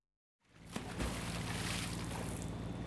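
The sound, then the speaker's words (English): After a moment of silence, a boat engine hums steadily beneath a constant wash of rushing, splashing water on a boat trip, loud, with no voices. “The next month, they go on a boat trip.”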